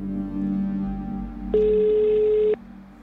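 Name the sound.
telephone ringing tone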